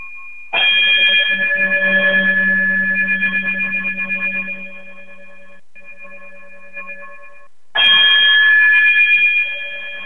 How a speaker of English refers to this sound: Yes. Chime us out.